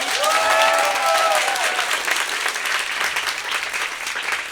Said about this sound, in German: Also bitte alle einmal klatschen, die für die Schildkröte sind.